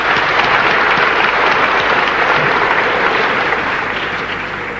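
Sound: audience applause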